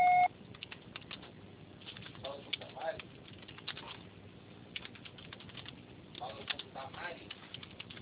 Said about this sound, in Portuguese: Sua chamada está sendo encaminhada para a caixa postal e estará sujeita à cobrança após o sinal. Deixe seu recado.